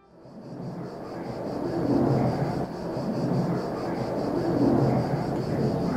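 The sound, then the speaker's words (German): A propeller airplane circles overhead, droning in a continuous, fairly loud rumble that swells and eases twice, with a faint steady whine riding above the low roar, heard from an estate. “und erstmal hörten wir gar nichts, außer das Flugzeug, das über uns kreiste.”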